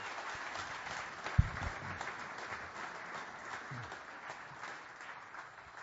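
An audience applauds steadily for several seconds, a dense wash of many hands clapping at moderate volume, with one sharper nearby clap standing out early on.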